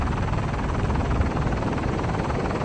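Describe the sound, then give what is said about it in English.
A solar-powered propeller plane, as light as a car and able to fly day and night without fuel, drones steadily overhead on its first flight in Switzerland, a continuous low, rumbling hum that holds at an even, fairly loud level throughout, with no voices. “Plane has made its first flight in Switzerland ahead of an attempt to fly around the world next year.”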